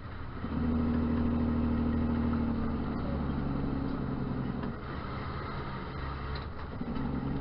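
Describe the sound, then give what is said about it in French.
The engine of a Freightliner Inspiration autonomous truck runs with a loud, steady low rumble and droning hum, its pitch shifting slightly partway through as it idles and revs gently. “Compagnie Freightliner Inspiration insiste dans la démonstration camion hein, que camion Inspiration n'y a pas qu'au prête pour yon camion qui a pour rouler sans chauffeur.”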